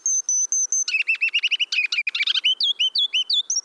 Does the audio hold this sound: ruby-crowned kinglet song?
yes